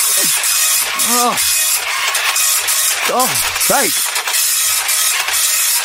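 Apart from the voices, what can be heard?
slow printer printing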